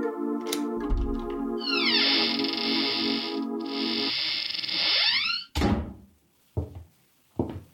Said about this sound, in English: I drove down to the apartment house on Gramercy Square where Cross and Halleck lived, took the elevator up to the 10th floor, found the right door, and slipped in with a passkey.